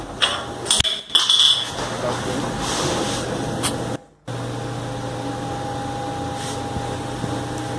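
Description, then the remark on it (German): An electronic alarm siren, triggered when something is opened, blares steadily with a shrill, sustained tone over a noisy hiss, cutting out briefly partway through before resuming. “Also wenn es jetzt aufmacht, sollte dann die Sirene losgehen. Ihr hört es sogar.”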